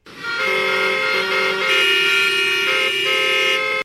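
Several car horns blare loudly and almost without pause for about four seconds, overlapping tones shifting slightly in pitch like a traffic jam of honking vehicles, with no one speaking.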